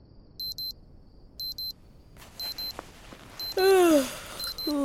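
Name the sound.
alarm clock ringing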